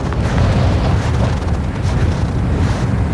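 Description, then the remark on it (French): Loud, steady wind buffeting a microphone, a constant low rumble with rough gusty surges and no clear pauses, filling the whole clip without any voices. “Il y a beaucoup de vent, hein.”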